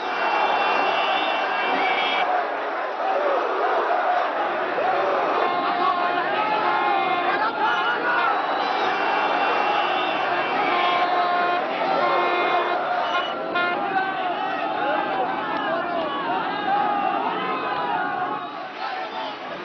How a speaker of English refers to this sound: Motorcade crowds were the most emotional near the University of Tehran